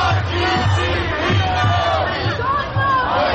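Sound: crowd of protesters chanting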